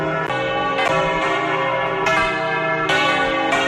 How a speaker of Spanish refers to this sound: Y a la 1:00 p.m. todas las campanas de las iglesias de Santander han sonado al mismo tiempo. Y todo para conmemorar el 500 aniversario de la llegada de la Nau Victoria al puerto de Sanlúcar después de finalizar la primera vuelta al mundo.